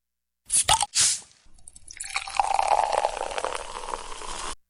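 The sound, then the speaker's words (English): A few short, sharp bursts of fizz and clatter, then a steady stream of liquid pouring into a glass for a couple of seconds, its gurgling tone rising slightly as it fills. “KBOO Radio, progressive, independent, and, so refreshing. Have a glass.”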